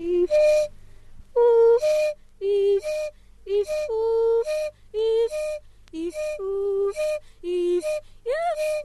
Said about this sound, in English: If we go back to something we heard very early on from Simha Arom's recording, this is the singer with a one-note whistle and singing along.